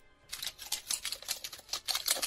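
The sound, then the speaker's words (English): Rapid, dry skittering clicks and crackles from rubbed pine cones used as a sound effect of cockroaches running, fairly loud; the busy patter starts abruptly and continues without a break. “It is pine cones, and they are making roaches running.”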